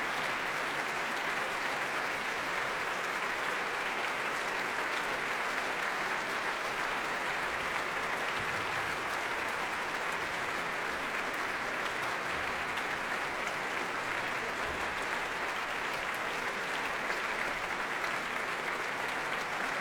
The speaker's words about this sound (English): Very warm applause from what is, for this sort of programme, really a very good house.